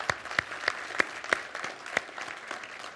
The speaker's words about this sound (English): If you helped participate, helped put that on last night, I'd like to give you a round of applause.